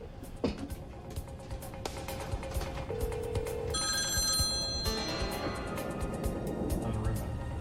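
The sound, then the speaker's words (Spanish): A telephone rings in a single bright, electronic burst lasting about a second, as a negotiator tries to contact people by phone during a hostage situation, set against a busy, noisy background with faint voices murmuring underneath. “Un negociador aseguró una línea e intentó contactarlos por teléfono.”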